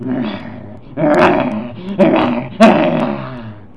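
An angry dog snarls and growls in several harsh, rough bursts, loud, with sharp attacks rising out of a continuous low rumble.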